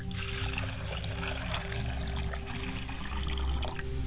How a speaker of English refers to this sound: As I pour the water over my hands and cleansing myself, I wash my face and I wash my hands, and I say, ashe.